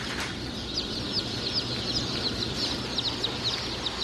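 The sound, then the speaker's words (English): A dense, continuous chorus of many chicks peeping and cheeping at once at a chick hatchery in Webster City, Iowa, which holds millions of chicks. High-pitched chirps overlap over a steady low background rumble, with no voices. “So there are millions and millions of chicks here at the Murray McMurray Hatchery”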